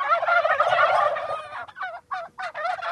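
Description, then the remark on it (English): A flock of Bourbon Red heritage-breed turkeys gobbling and chattering on a small organic farm a few miles off the Mississippi River, starting with a dense overlapping burst of warbling calls, then breaking into several shorter, separate gobbles. “They also raise chickens, pigs, and turkeys, including heritage breeds like these chattery bourbon reds.”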